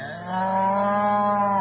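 A single long, low moo from an ox, steady and drawn out for over a second, fairly loud with no other sounds around it.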